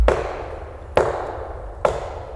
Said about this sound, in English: McCall shot his gun at a nearby tree as a warning.